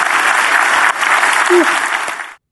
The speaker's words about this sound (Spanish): Si Dios le habló, voy a dar un aplauso al Señor que Él se lo merece. Amén.